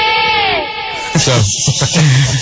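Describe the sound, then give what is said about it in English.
A voice imitates an elephant live on the air: a loud, wavering trumpet-like blare slides downward in pitch, then breaks into rougher, raspy bellowing bursts. “So let me first do my impression of an elephant here, because I think you guys will enjoy it.”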